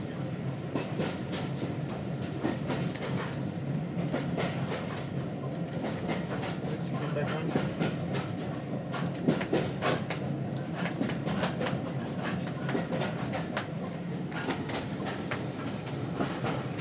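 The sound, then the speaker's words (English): Steady clickety-clack of train wheels rolling over rail joints on the line between Kidderminster and Bewdley, a continuous rumbling rhythm heard from inside a carriage, loud with a broad mechanical roar underneath. “drumming on his knees in time to the, well, actually not really in time to the train at all.”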